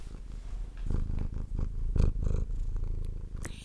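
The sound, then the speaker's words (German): A tomcat purrs right up against the microphone, a low continuous rumble that swells in rhythmic pulses with each breath, loud and close, with no one speaking. “Der Kater schiebt sie vors Mikrofon.”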